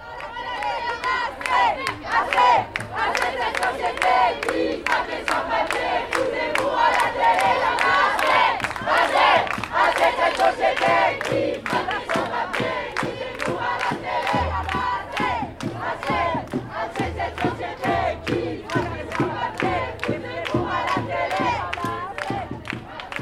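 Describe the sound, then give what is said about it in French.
A protest crowd of a few hundred people shouts and chants loudly and steadily their anger and solidarity with those who move and struggle, with sharp rhythmic beats running throughout and deep booming pulses joining in during the second half. “On était quand même quelques centaines de personnes, contentes de se tenir ensemble et de crier notre colère et notre solidarité avec celles et ceux qui se déplacent et qui luttent pour que d'autres puissent le faire.”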